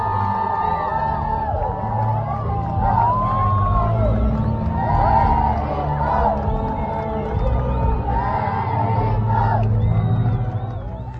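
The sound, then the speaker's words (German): A large crowd of young people cheers and chants "Benedetto" loudly and without a break, many overlapping voices rising and falling in shouted calls before easing off at the end. They are greeting Pope Benedict XVI at a Mass in Stará Boleslav, Czech Republic, on the last day of his visit. “Mit jubelnden Rufen Benedetto wurde Benedikt XVI. Von jungen Menschen am Montag in Stara Boleslav, dem Abschlusstag seiner Visite, begrüßt.”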